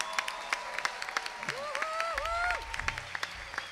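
An audience claps steadily in a dense, crackling patter of many hands, with a brief rising and falling tone sounding over it partway through.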